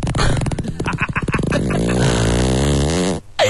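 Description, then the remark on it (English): A long, loud fart from a man, recorded while he slept, starting with rapid sputtering pulses and stretching into a drawn-out buzzing rasp that wavers in pitch before cutting off abruptly. No one speaks. “Farts are never not funny.”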